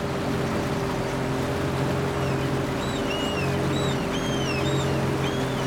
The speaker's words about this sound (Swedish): Båtfärden tog bara 10 minuter och flickan njöt av havsvinden och stänket från vågorna som strittade saltvatten upp i ansiktet.